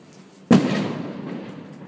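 fireworks exploding

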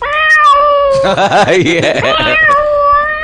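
cat meowing

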